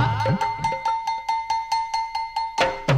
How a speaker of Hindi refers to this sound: खाना है तैयार घंटा बजा।